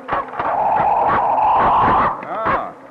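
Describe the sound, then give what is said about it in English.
A dog, a stray cur that has been following a lieutenant, gives a few sharp barks mixed with a long, drawn-out whining cry, loud and continuous for a couple of seconds before a final yelp. “Where'd you get the dog, Lieutenant Cutting?”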